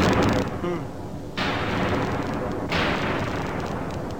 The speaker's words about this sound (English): Right, well, there's a fairly normal explosion. It's just coming out of there. And if we put it through this box, we'll see that it's got a sort of fireworks sound with it.